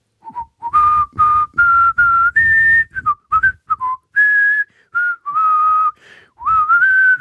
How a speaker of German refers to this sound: Und was glaubt ihr, wie die anderen gucken, wenn ich da beim Duschen immer anfange zu pfeifen?